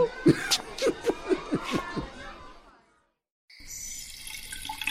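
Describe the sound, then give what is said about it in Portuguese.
A burst of laughter fades into a short silence, then a steady hiss of hot shower water starts running, continuous until the end, as a school director showers at night. “a diretora Felizmina acaba de tomar banho com água quente e prepara-se para dormir”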